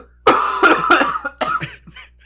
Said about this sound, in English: My voice is getting raspy, so I'm going to have to hack up a storm. So let's hear it. Let's hear it. Let's do it.